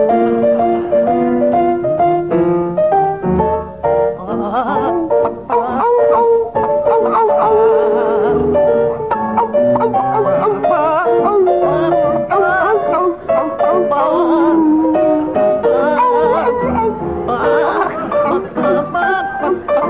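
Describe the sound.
John Cleese and Graham Garden sing a continuous melody using barks, howls and clucking noises, imitating a dog and a chicken, in a judged comic singing round. The comic vocal performance is steady throughout, with no ordinary speech.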